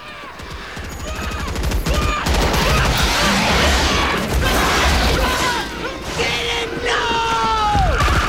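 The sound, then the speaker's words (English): Continuous heavy gunfire crackles with dense bursts and crashes as troops shoot at an attacking bug, while shouting voices and shrill screeches rise over the din, loud throughout. “Kitten turns to shoot a bug. It leaps on him and tears his body apart.”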